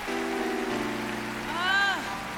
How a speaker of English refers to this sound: Give them all a big hand, honey. Just clap. Clap for the children.